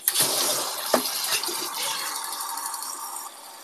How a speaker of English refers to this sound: Let me just get some hot water going because I'm thirsty.